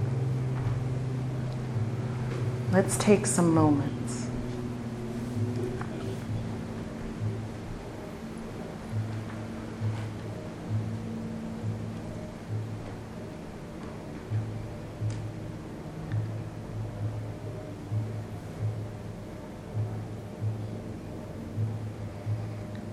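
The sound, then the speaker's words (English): A steady, low mechanical hum of motors drones throughout, with a faint rhythmic pulsing beneath it; a voice speaks briefly near the start over the constant engine noise. “Don't let the hum of the motors distract you.”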